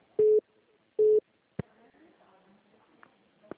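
Two identical steady electronic beeps on a phone call, each about a quarter second, with a short pause between them, followed by faint clicks and low background noise.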